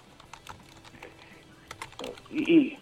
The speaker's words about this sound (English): My son's here. Oh. He's typing in some stuff on the computer.